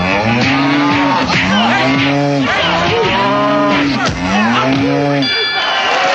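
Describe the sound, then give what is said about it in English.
Several cows moo loudly, their long, low bellows overlapping one after another in a steady series, with a faint murmur of background noise underneath. “Farmyard pugilists go at it hammer and tongs in the heavyweight division of cow boxing.”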